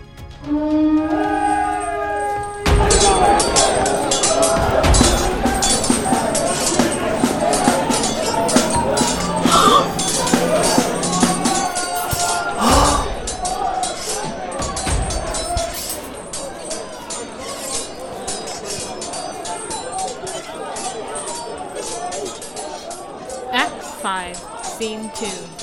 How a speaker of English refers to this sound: Battlefield. There are explosions of men screaming, yelling, shouting, feet marching, horses' hooves running, trumpets, drums.